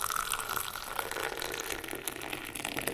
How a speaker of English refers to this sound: Bella poured us cups of their strong English breakfast blended with tea leaves from India and a delicious Earl Grey with genuine bergamot oil from Italy.